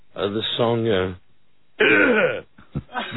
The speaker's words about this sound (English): Does he clear his throat like that? I got the Vegas throat.